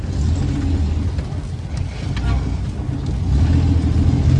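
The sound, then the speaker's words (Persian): A taxi's engine hums steadily, a low continuous rumble of driving that swells slightly louder toward the end as the driver stops the car, with no voices over it. “راننده ماشین رو نگه میداره و اون رو پیاده میکنه.”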